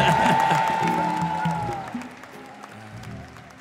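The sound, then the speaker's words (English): A crowd claps in a dense, sustained burst of applause that gradually fades over a few seconds, with a faint sustained tone and scattered voices mixed underneath. “First of all, let's put our hands together and congratulate.”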